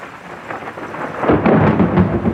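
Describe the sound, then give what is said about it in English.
A steady hiss of heavy, pouring rain swells suddenly into a loud, deep rumble of thunder partway through, the roar lingering over the downpour to the end. “And now it's pouring.”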